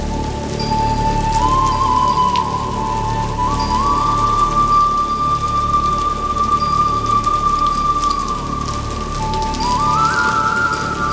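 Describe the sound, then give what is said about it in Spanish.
Torrential rain pours steadily onto a historic building, a loud, dense, unbroken roar of water throughout, with a thin sustained whistling tone gliding between pitches above it. No one speaks. “Llueve torrencialmente sobre el edificio histórico”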